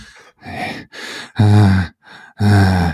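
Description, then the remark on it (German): A voice imitates a man's heavy snorting and grunting at his desk in six breathy bursts over three seconds, softer huffs alternating with loud, deep, groaning exhales, with no words spoken. “ist wieder zurück an seinen Tisch und hat weiter geschnauft”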